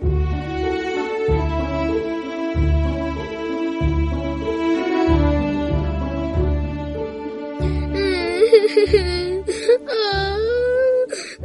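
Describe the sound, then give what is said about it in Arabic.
A girl character in a children's story programme cries and sobs in drawn-out, wavering wails that grow more broken toward the end, set over a steady, pulsing musical backing. “لؤلؤة ما بك؟ لماذا تبكين يا عزيزتي؟”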